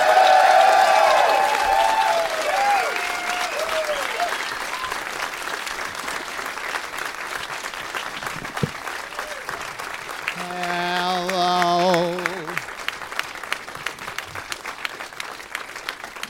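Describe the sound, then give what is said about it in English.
A crowd on Doug Loves Movies breaks into sustained applause as three guests, including comedians Ron Funches and Jonah Ray, are welcomed to the stage, with some cheering and whoops early on and a brief tonal whistle or shout partway through before the clapping thins out. “Please give a big warm welcome to three fellas that are in town right now.”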